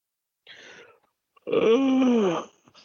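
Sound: a person yawning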